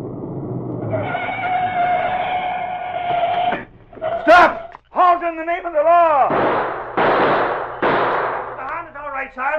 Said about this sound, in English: What's going on out here? Who did all the shooting?